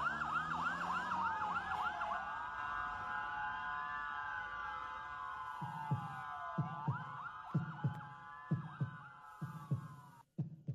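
An ambulance siren yelps and then wails. Partway through, a steady heartbeat starts up beneath it: low, paired lub-dub thumps repeating for several seconds before the sound cuts off.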